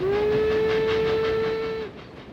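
train running on rails

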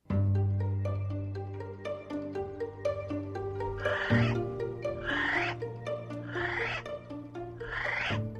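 kiwi bird call

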